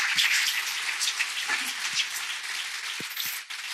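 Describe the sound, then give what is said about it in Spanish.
An audience at the Desafíos 2025 forum applauds the three panelists of a round table, a dense, even wash of many hands clapping that holds at a fairly loud level for the whole stretch and fades slightly toward the end, with no voices. “Pues yo creo que los tres han merecido un fuerte aplauso por esta mesa redonda.”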